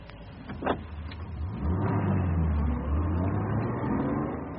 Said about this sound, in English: Is he in his car? Yes. Just got into it and drove off that way.